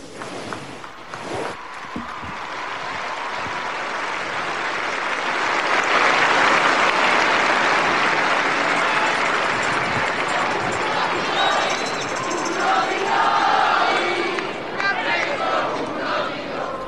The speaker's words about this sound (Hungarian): Lassan már elmaradhatatlan a tapsvihar és Ferenc pápa köszöntése így az audiencia végén.